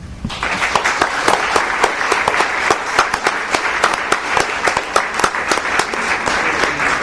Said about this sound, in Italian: Sono un po' geloso di questo applauso, però l'ho invitato io.